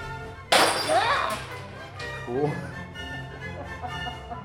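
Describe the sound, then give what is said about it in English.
A loud crash of breaking glass bursts out as breakables are smashed in a small rage room, followed by tinkling shards and a second smaller clatter a couple of seconds later, with faint voices in the background. “And then you take them into this little room and you close the door and you smash them.”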